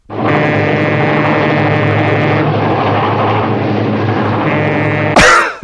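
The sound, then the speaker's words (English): A person imitates a train with their voice, holding a loud, sustained droning horn-like tone with steady harmonics for about five seconds, ending in a sharp burst of breathy hiss. “I do a pretty good train. A train? Well, let's hear a train.”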